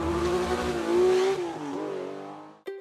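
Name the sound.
sports car engine revving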